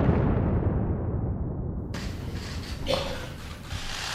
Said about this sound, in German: Seit etwa 3 Uhr morgens fallen Bomben auf die irakische Hauptstadt und der US-Fernsehsender CNN überträgt live Bilder von Bagdad bei Nacht, untermalt vom Donnern der Bombeneinschläge.